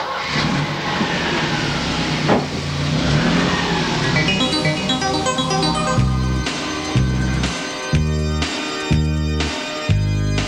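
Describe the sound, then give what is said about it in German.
A car engine turns over and revs up with a rising whine, loud, before a pounding rhythmic music beat takes over for the second half, opening the car magazine show Die Kurbelwelle. “Steige die und lade den Motor an.”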